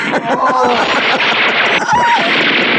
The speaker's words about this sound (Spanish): El criminal acciona su arma automática.